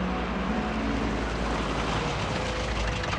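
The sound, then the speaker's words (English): A steady engine rumble with broad road noise, like riding inside a moving car being driven out into the countryside, holding an even loudness throughout with no voices. “They took Sidney to a car and drove him out into the countryside.”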